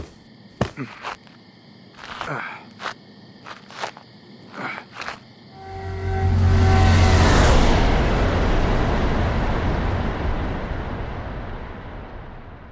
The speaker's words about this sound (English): He wouldn't be calling them either, because the car that just pulled away from his house was an unmarked police vehicle.